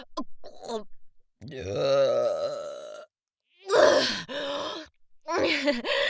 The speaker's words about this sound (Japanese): ごめん、君の鼻っ面に特大ゲップぶちかましちゃった。どう、めっちゃ臭いでしょ。